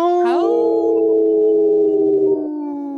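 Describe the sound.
Several people on a radio show imitate wolf howls together, their voices rising at the start and then holding long, steady, overlapping tones for about three seconds. The howls are loud, with no talking.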